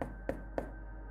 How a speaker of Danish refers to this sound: parkerede Hyundai'en ud for den gruslagte indkørsel og bankede på hoveddøren.